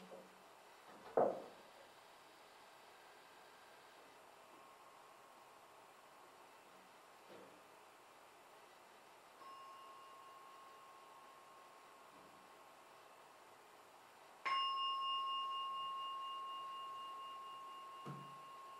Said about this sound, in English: I'm going to ring the bell 3 times and we end the meditation for tonight.